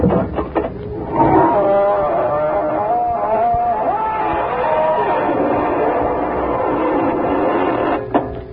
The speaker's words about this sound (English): Good evening, friends of the Inner Sanctum. This is your host to welcome you through the squeaking door.